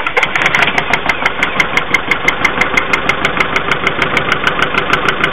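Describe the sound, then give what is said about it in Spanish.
A car engine runs with a steady, rapid metallic knocking from valves striking the piston, sharp ticks repeating about five times a second over a rough, vibrating hum, loud and continuous with no voices. “Al momento de funcionar el vehículo, podría haber mucha vibración y se puede escuchar así.”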